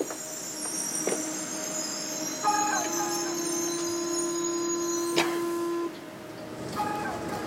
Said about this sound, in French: Le métro sonne, les portes se ferment.